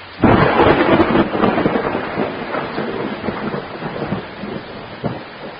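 Heavy rain, enough to flood some local roads, pours steadily while a deep roll of thunder rumbles loudly at the start and slowly fades, leaving a dense wash of rainfall with no voices.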